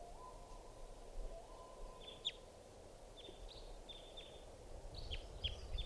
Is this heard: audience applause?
no